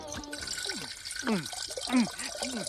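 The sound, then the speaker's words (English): Water trickles and gurgles, with a run of bubbly, wobbling glugs like a drink being poured, over a steady background hiss; goldfish water poured as a drink. “Goldfish water.”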